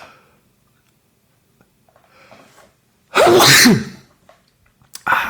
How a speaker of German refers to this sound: Sorry für den Nieser, ich hoffe, ihr seid nicht taub.